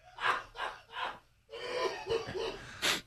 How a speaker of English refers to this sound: Cough right into my hand.